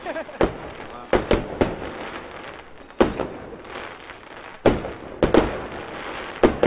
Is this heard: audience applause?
no